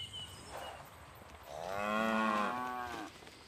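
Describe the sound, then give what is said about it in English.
A single long, drawn-out moo from beef cattle on a hillside of a small farm, loud, rising then falling over about a second and a half, against faint outdoor background noise with no talking. “Now we are following the cattle up the hill.”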